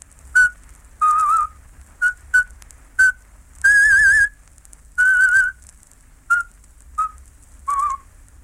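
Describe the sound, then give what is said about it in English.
A Slavic radio presenter whistles a traditional folk song at the start of a broadcast aimed at southeastern Europe, in short, bright phrases, some held with a wavering vibrato, separated by brief pauses. Clear, with no talking. “The Slavic presenter started his talk by whistling a traditional folk song whose refrain went, "Out with them, out with them."”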